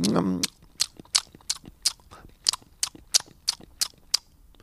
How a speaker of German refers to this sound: Eine ganze Igelfamilie, die hintereinander herwatschelt und die leckeren Innenstücke der plattgewalzten Kastanien schmatzend verputzt.